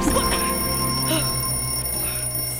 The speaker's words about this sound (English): Sorry. I was trying to put some of your clothes away, and I knocked over your alarm clock.